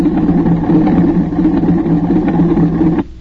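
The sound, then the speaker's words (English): An old propeller plane carrying two people comes down to land, its engine droning loudly and steadily in a low, buzzing hum with no voices, then the noise drops away abruptly just before the end. “I can see quite well that there are two people in that plane”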